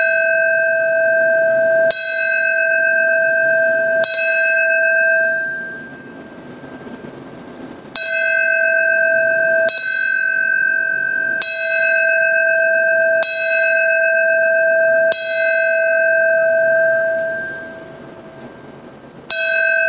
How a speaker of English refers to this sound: The ceremony will start with the ringing of the New York City Fire Department bell. It will ring 20 times in four sets of five rings, the traditional signal for a fallen firefighter.